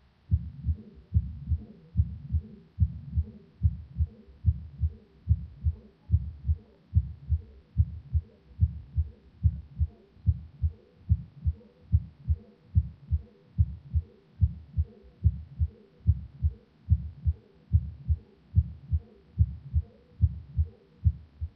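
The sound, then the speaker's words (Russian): A steady heartbeat heard through a stethoscope at the second auscultation point, each beat followed by a soft, blowing, low-volume diastolic murmur as blood flows back from the aorta into the left ventricle, with a weakened second heart sound, repeating evenly for the whole stretch with no voices. “Этот шум обладает мягким дующим тембром и небольшой громкостью. Второй тон почти всегда ослаблен.”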